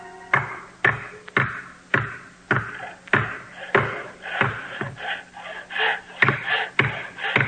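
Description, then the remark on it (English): Hammering the last nails into the roof of a mountainside cottage damaged in a storm: about a dozen sharp, steady blows struck roughly twice a second, each a bright knock with a short ringing tail, with no voices. “Oh, that's the last nail, and the roof is fixed.”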